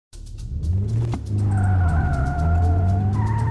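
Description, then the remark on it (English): A speeding car roars with a heavy, continuous engine rumble, then tires break into a loud, sustained high-pitched skid that lingers through the end, intense. “you know I hate to be a backseat driver, but you're going awfully fast there, buddy.”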